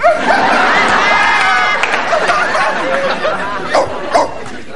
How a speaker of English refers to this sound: Hey, Grandma, I found your barking dog. She was shut up in the garage.